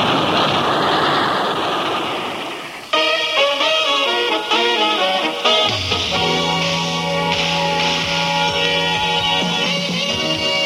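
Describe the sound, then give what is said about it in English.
In an old Superman radio show, a train rumbles loudly across a bridge, its heavy roar fading over about three seconds before a dramatic orchestral music cue abruptly takes over. No one speaks. “Superman holds the bridge rigid until the train passes over.”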